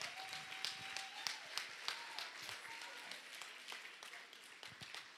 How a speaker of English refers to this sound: Amen. Get the Lord a hand clap.